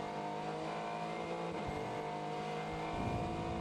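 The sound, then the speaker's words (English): Racing cars at an IMSA sports car race roar continuously with dense, harmonic engine drone, pitches shifting as engines rev and others pass, loud throughout with no talking. “Sights and sounds of IMSA.”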